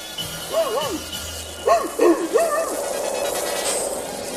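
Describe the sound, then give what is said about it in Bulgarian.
Wolves howling in the distance somewhere in a forest: short, wavering, rising-and-falling cries in quick bursts, first a pair, then a cluster of three or four, over a faint steady hiss. “Не чуваш ли? Някъде май вият вълци.”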